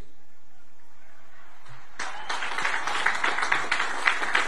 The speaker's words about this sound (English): What the hell is up with the low energy in that room? Even I would naively expect military academy, you know, graduates to clap a little bit harder. They don't give a shit. They don't care about Trump.